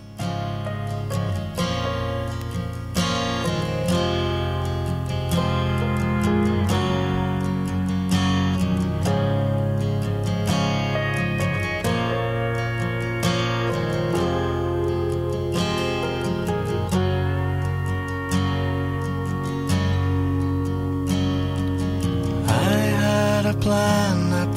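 A country folk song in a full, driving instrumental passage: strummed guitars and a steady beat carry on at an even, loud level, with plucked notes rising above the rhythm.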